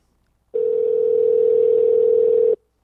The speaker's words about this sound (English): Phone's ringing, dude.